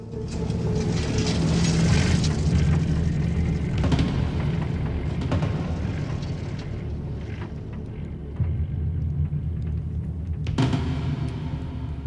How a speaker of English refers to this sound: Beckett lowers his head as a patrol car trundles past barely a meter from him.